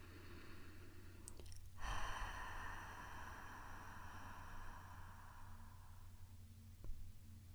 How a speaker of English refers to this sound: Open your mouth about an inch, and on your next exhale, breathe out through the mouth with a little bit of sound, like you were fogging a pair of glasses to clean them. It sounds sort of like this.